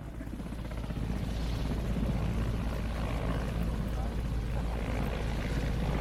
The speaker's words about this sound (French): Dans une autre partie de la base militaire, un hélicoptère vient de se poser sur un terrain vague.